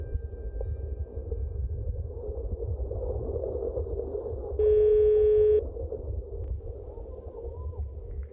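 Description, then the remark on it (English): A single steady telephone line tone sounds for about a second while calling a home answering machine, loud and clear over a low, rumbling background hum, with no one speaking. “I call the answering machine to hear his voice.”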